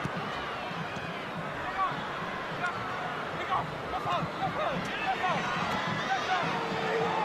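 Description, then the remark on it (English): Steady roar of a crowd of 20,052 at a soccer stadium during a night match involving Austin, a dense wash of voices and murmuring that swells slightly at moments but never breaks into a distinct cheer. “Crowd of 20,052 here tonight.”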